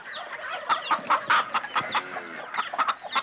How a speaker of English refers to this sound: A chicken.